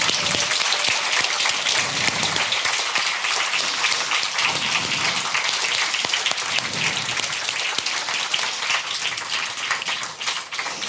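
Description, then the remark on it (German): A sustained burst of audience applause thanking the camera crew, many hands clapping in a dense, steady crackle that stays loud for about eleven seconds before easing slightly at the end, with no one speaking. “Bei denen wollen wir uns einmal mit einem ganz großen Applaus bedanken.”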